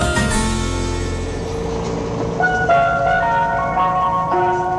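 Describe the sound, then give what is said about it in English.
An ice cream van's chime, opening the 4 o'clock show Ice Cream Van on BBC Radio 4 Extra, plays a bright, tinkling tune of sustained notes over a steady low engine rumble, the melody entering partway through and continuing to the end. “Hello, it's Mel Gedroych here, and you're just in time for a tasty treat from the 4 o'clock show Ice Cream Van.”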